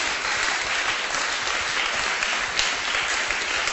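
A large crowd claps together in a clap offering for Jesus, sustained, dense applause, loud and steady for several seconds with no pauses.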